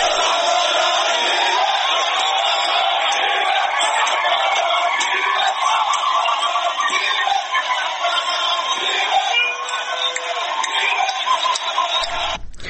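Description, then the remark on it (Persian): A dense crowd of Khuzestani tribespeople, joining protesters in the evening in Abadan, shouts and chants slogans in Arabic together in a steady, loud roar, warning government forces about shooting at people, with raised cries rising from the mass throughout. “بنابر گزارش‌ها در شبکه‌های اجتماعی، اشایر خوزستانی با سر دادن شعارهایی به زبان عربی به نیروهای حکومتی درباره تیراندازی به مردم هشدار دادند.”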